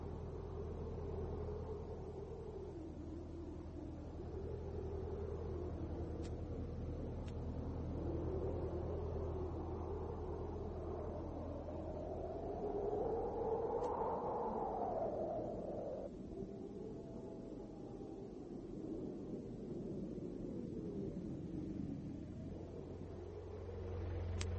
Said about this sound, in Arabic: أزعج هدير محرك السيارة نوم سادة التندر.